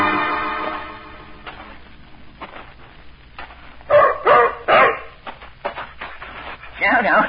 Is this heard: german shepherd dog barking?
yes